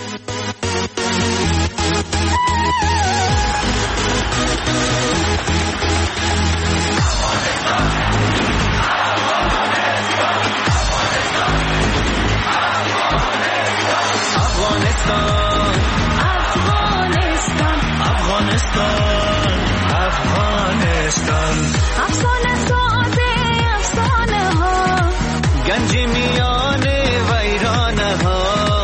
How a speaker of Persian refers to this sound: ای آهنگ تقدیم همه وطندارای گل ما که در علاقمند کرکت هستند، فوتبال هستند، ورزش های دیگه هستند، همه جوانایی که افتخار آوردن، خانه‌شان آباد، خداوند عمرشان طولانی بسازه، موفق باشن. مشنویم دوستای عزیز به افتخار پیروزی ما و دوباره برمیگردیم.